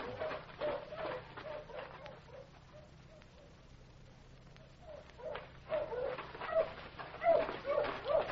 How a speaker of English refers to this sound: Listen, aren't those hounds baying? Yeah, that's Clem Potter. I ordered him out with his dog as soon as I heard about the escape. Good. Now, come on. Sounds like them dogs is on the trail.